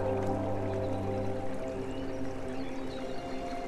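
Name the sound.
flowing stream water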